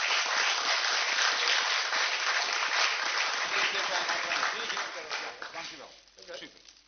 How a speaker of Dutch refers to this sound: Met een applaus en ontzettend veel waardering voor het werk wat je doet.